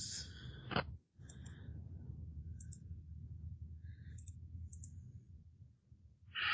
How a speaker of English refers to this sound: And it is incompetent because it forgot what dice to roll. Excellent. Rolling dice.